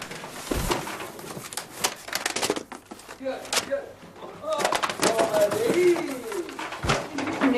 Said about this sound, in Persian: این یکی هم باز نمی کنه نه؟ میگم بابا نکنه این کلید مال همین دوست احمد آقا باشه